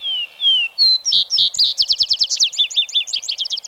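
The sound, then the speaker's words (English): A vesper sparrow sings alone at twilight: a few clear, slurred whistles open the phrase, then it breaks into quick, bright trills and rapid chattering notes, high-pitched and fairly loud throughout. “And then gives over to the vesper sparrow that does his finest singing in the twilight.”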